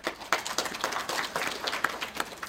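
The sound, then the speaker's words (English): An audience applauds the speakers of a program on open access in Africa, a dense, steady patter of many hands clapping at moderate volume with no voices over it, sustained throughout with slight swells. “So first of all, I'd like to thank the speakers who have made up such a great program which has stimulated all this discussion, and I should think we should give them all a round of applause.”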